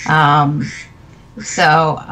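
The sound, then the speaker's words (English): A duck quacks twice, two loud, nasal, buzzy calls separated by a short pause. No one speaks. “There's a duck.”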